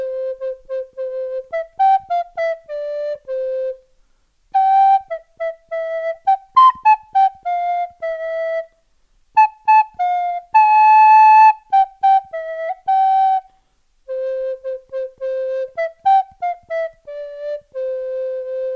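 A simple tune played on a small shepherd's pipe while herding on a meadow, clear, in four short melodic phrases separated by brief pauses, with no voices.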